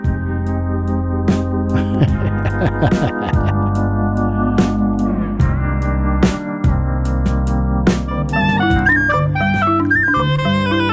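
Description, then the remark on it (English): A drum is struck in loud, sharp hits at irregular intervals, ringing over sustained instrumental tones. A higher melodic line joins toward the end. “Who's playing that drum?”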